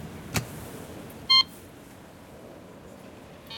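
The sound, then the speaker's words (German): A single short electronic doorbell tone, rung at a rear courtyard entrance, a bright high-pitched beep lasting a fraction of a second, stands out loudly against a quiet, hissy background after a brief soft thump. “Ich klingel mal.”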